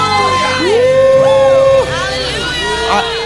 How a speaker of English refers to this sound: Oh, come on, can you put your hands together